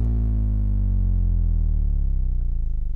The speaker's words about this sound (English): And it just so happens that it's a very low frequency sine wave. So I'll give it a spin, and you can hear that this is just the sound of a hard drive motor amplified.